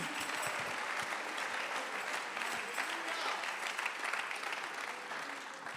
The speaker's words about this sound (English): Somebody clap your hands in the house. Alguien aplaude las manos.